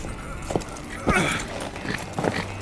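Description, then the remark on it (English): Horse hooves clip-clop in a few uneven, heavy strikes, with a brief whinny rising in the middle as the animal shifts about. “I told you all horses were a bad idea.”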